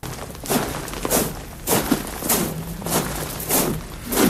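Soldiers march on gravel, their boots crunching in a steady, even rhythm of about seven heavy steps, at the opening of a Portuguese song. The sound is clear, with no voices or other sounds over it.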